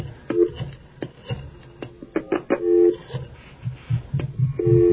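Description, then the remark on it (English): Telephone line tones sound in a few short, steady beeps while a call is dialed, separated by clicks and clattery handling noise, fairly loud with a thin, band-limited phone-line quality. “we're well on our way to calling up WITR”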